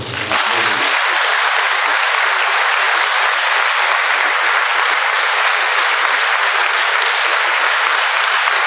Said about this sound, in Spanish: y siempre, sin ninguna duda, y con todo el cariño y la ilusión, están ahí presentes para ayudarnos, ¿no? en todo lo que organizamos, tanto a la banda de gaitas Ciudad de Cangas Onís como al Coro Peñasanta. También pido otro aplauso.